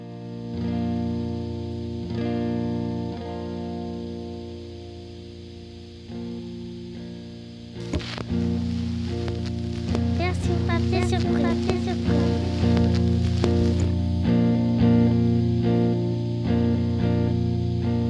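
A song played on an omnichord: steady, shimmering electronic chords with a chorus-like wash. After about eight seconds a voice sings over the sustained harmonies, and the music grows fuller and louder.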